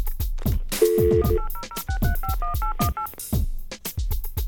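telephone number being dialed

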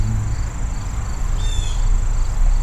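birds chirping outdoors

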